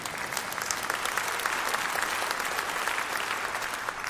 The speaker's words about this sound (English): If you don't like your sin, you'd have clapped. If you like it, you might not have clapped for that one.